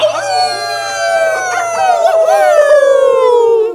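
Wolves howl in a loud chorus, long wavering tones that overlap and slowly slide downward in pitch over a few seconds, with no talking.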